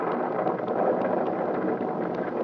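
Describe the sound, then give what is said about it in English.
Steady, heavy rain of a thunderstorm with lightning pours down in a dense, continuous hiss with a low storm rumble underneath, loud throughout with no voices. “Look at the lightning, Andy. Yeah, it'll kill our mare this keeps up.”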